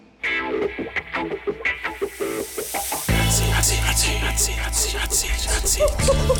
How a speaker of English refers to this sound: That sizzling sound effect is because my metal skin is super hot, and if you touch me a horse, you're going to get burned, baby.